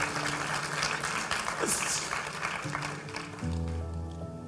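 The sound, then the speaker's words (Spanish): A crowd applauds in a steady, dense patter of clapping that holds for several seconds, while low sustained keyboard chords shift underneath. “Bueno, no era para sacar aplausos.”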